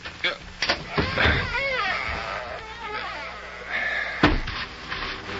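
A heavy wooden outside cellar door, one side of a double door wide enough for a wagon, is pulled open with a few knocks and rattles, then a long groaning hinge creak that wavers up and down, ending in a solid thud.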